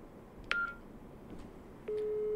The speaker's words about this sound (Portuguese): Deixa eu tentar ligar do telefone normal aqui pra ele.